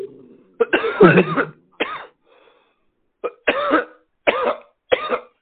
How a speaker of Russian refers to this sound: Ты что ты кашляешь? Подавился слюной.